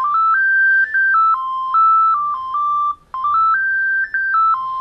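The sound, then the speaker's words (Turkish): A mobile phone ringtone, one of about 12 previewed while choosing a ringtone in the phone's settings, plays a loud, simple electronic melody of stepped, beeping tones, the short tune repeating twice with a brief pause between rounds and no voices. “Bak burada da zil seçebiliyorsun hocam.”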